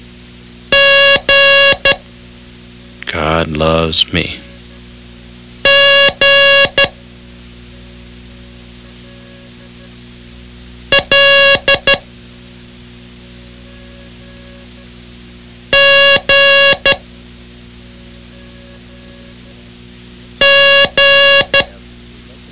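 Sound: morse code beeps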